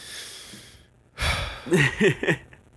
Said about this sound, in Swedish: Ja, alltså jag måste ta ett djupt andetag inför det här segmentet.